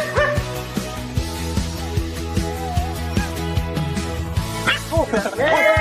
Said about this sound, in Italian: Trasforma ogni abbaio in conversazione.